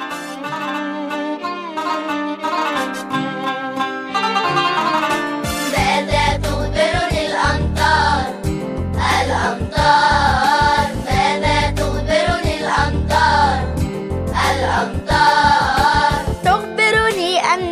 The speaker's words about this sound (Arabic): هيا بنا لنستمع إلى أنشودتنا الجميلة لحلقتنا لهذا اليوم من حديقة الأطفال